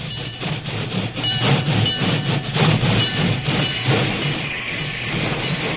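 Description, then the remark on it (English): A locomotive pulling a work train rolls in on the main track beside a telegraph office in a drizzle. A loud, steady rumble with rhythmic clattering of wheels on track holds for several seconds before easing slightly. No voices. “It was only a short time later, and the rain had slackened to a drizzle, when a wailing locomotive whistle announced the work train's arrival on the main track beside the telegraph office.”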